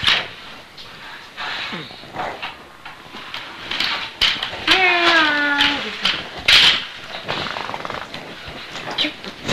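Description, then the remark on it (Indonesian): A cat meows once, a clear drawn-out mew, with a fainter mewing sound earlier, over a noisy background with occasional clatter and murmuring voices. “Tuh kucing kan tuh nih. Nih meong gitu.”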